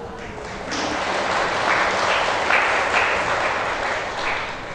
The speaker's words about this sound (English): Whether you understand just now talk or not, you still clap the hand.